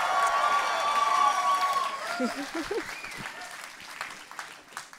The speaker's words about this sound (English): So before I start, a big round of applause